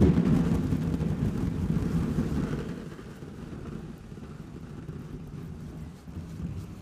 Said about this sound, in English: Sound like thunder? Oh, yeah. Yeah, absolutely. These are just BBs inside of a party balloon. So a couple of blown-up balloons with BBs inside it. We shook them, and then as that kind of... It really sounds like a storm is rolling in.